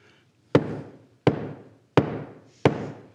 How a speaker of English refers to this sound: And for some reason, he starts banging the floor with the hammer.